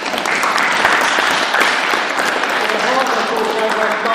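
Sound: audience applause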